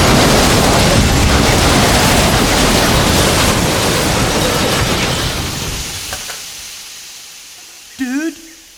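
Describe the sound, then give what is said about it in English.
A massive roaring crash of a train colliding with another train on the same track, a dense wall of noise that holds for several seconds and then fades away, followed by a brief voice. “Dude, there's another train on this track. Buddy, it's coming at us.”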